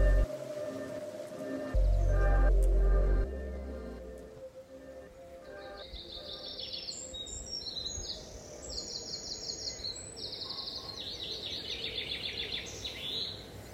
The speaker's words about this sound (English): Well, I'm down in the shed just doing a bit of painting on my horse lorry and just generally just going over it, listening to all the birds singing and watching the swallows all returning